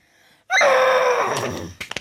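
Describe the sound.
A person imitates a horse's neigh with a loud, high, quavering vocal whinny that starts abruptly, then falls in pitch and fades into breathy sputters.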